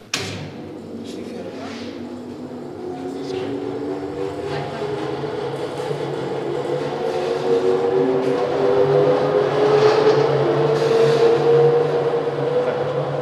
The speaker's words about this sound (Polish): Możemy jeszcze włączyć szlifierkę, to uczennica pokaże jeszcze na kole.